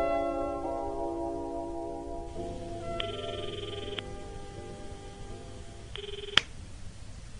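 A telephone ringing on the line as a call is placed to a family home in Fukuoka: two short, steady electronic rings about three seconds apart, heard through a receiver over a faint background hum, with no one speaking.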